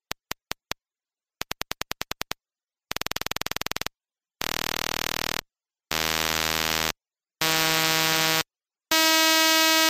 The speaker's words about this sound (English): at the fastest rate, you just hear a buzzing sound with a high pitch